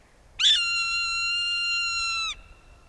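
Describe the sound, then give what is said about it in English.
A Swainson's hawk gives one long, drawn-out, high-pitched scream lasting about two seconds, steady and clear after a brief rising start, alone over a faint background hiss. “During raptor migration, kettles can swell with many different raptor species, like this Swainson's hawk.”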